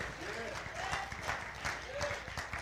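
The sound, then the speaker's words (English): An audience claps their hands in praise of God in a dense, steady burst of applause, many overlapping claps forming a rough wash, with a few voices calling out over it. “Give God a hand clap of praise up in this house.”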